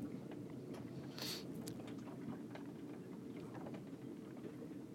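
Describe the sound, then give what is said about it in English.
Steady rushing of water past the hull of a boat sitting on its mooring about half a mile across from Falmouth, with a low wind roar, scattered small knocks and a brief higher whistle of wind in the rigging; sunny, after hard rain, with the wind rising. “You can hear the wind in the rigging and the water rushing past.”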